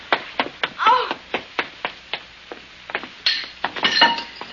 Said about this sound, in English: Fine, I hit the pipes up above instead of the window.